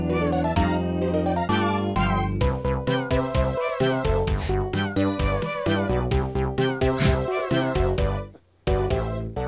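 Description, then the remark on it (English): Cat meows woven into a loud, dense musical recording of quick, rhythmic notes, played loud for a Siamese cat to hear, playing steadily until a brief dropout near the end; no one speaks. “Yeah, it does, right, because there's a cat sound in that, too.”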